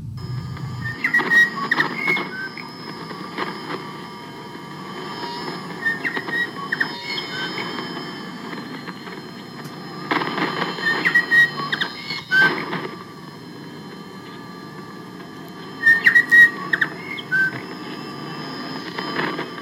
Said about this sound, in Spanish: Y la pueden escuchar con su señal de intervalo, que es un pajarito local, un ave local, abriendo transmisiones de esta forma.